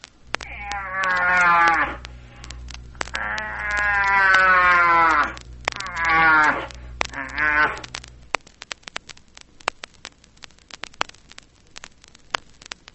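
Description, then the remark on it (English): A cattle call blown on a horn: four loud, drawn-out, wavering tones in quick succession, the second longest, followed by quiet rustling and scattered clicks. “The sound is not made in the horn, but must come from deep within you.”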